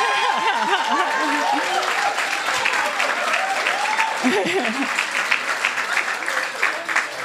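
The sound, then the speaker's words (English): A crowd applauds steadily as artists are invited onto the stage for a panel, a dense wash of many hands clapping at once, with a voice speaking over the top and a whoop or two rising from the audience. “Clapping each one, I think.”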